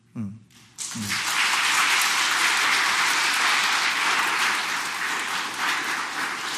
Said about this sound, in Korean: 정말 성당 내에서 수고하시는 분들에게 우리가 정말 수고한다는 말 한마디는 하지는 못하지만 또 누가 수고하고 있는지 관심을 두지 않을 때도 있지만 내 머릿속에, 내 마음속에 수고하고 있는 그분을 떠올리면서 우리 그분들께 박수 한번 보내드릴까요?